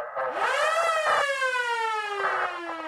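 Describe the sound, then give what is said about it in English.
A loud Bakersfield police patrol car siren wails, its bright, buzzy tone gliding slowly downward in one continuous sweep over about three seconds, with no voices, switched on to pull over a vehicle that made an illegal left turn in an area off East California Avenue. “Scott activated his lights and siren.”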